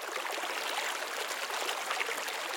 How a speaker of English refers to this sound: finally head down to the silver glistening river that roared like a roaring lion.